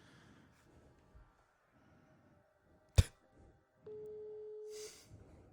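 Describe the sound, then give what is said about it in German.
A sharp click, then a single steady ringback tone lasting about a second as an outgoing phone call rings through and goes unanswered, over faint background rustling with no talking. “Der geht nicht ran.”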